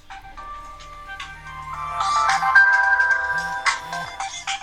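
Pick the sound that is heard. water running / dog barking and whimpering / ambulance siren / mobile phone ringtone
mobile phone ringtone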